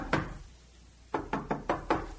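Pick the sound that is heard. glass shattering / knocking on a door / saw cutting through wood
knocking on a door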